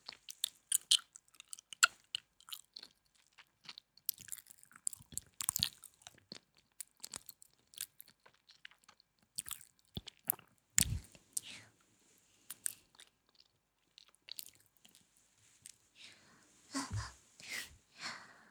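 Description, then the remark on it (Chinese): Ice cubes being chewed and crunched, a quiet, irregular run of sharp, brittle cracks with a few heavier crunches scattered through, and soft mouth sounds between bites. Nobody speaks. “好凉啊，冰块吃起来的感觉真的好舒服呀。”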